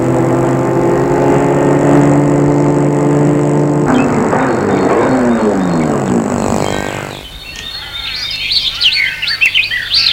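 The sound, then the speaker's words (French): A car engine hums steadily, then its pitch shifts and winds down as gendarmes pull the car over near Saint-Gervais and it comes to a stop. The engine cuts out, leaving birds chirping outdoors. “Arrivé vers Saint-Gervais, des gendarmes font arrêter la voiture.”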